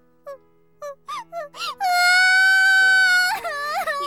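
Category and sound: human body sound, person crying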